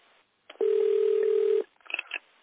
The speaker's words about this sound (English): Is the ringtone coming from the phone around you or from your phone?